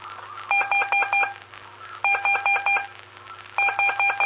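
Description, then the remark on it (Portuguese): Three bursts of Morse code telegraph letters sent during telegraphy lessons from the town of Rodeio, each a quick run of short, evenly spaced high-pitched beeps, separated by brief pauses over a faint low hum. No one speaks. “Delta Eco Vicente, cidade de Rodeio, aí com as aulas de telegrafia, ok?”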